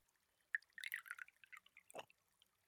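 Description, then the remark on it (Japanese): Sake is poured into a small cup during a cherry-blossom viewing, a short run of soft gurgling splashes and drips lasting about a second and a half, fairly quiet, with no talking. “では旦那様、お酒をどうぞ。”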